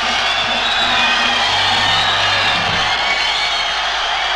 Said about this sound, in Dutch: werden met oorverscheurend gejuich en gegil begroet.